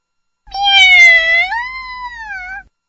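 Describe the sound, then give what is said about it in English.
A single long, drawn-out cat meow, fairly loud, rising then holding a steady wavering tone for about two seconds before fading out, with no other sounds around it. “Bye bye, cat.”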